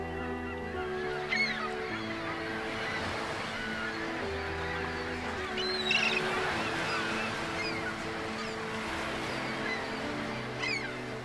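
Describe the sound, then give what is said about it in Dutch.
Geese honk repeatedly over a steady wash of sea and surf coming onto a beach, their calls rising and falling in scattered bursts with no one speaking. “de vogels, de natuur.”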